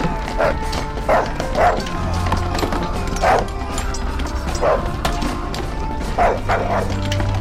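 A dog barks about seven times at uneven intervals, single sharp woofs of moderate loudness, set against a steady, busy background rumble with no talking.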